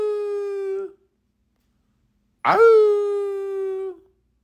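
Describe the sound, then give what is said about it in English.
A person imitates a dog howling on a doorstep with two drawn-out, steady vocal cries. The first is short and fades, and after a pause a longer one starts with a sharp burst. Both are loud and alone. “But that was the only dog on the doorstep with the man. And he just howling. Ow!”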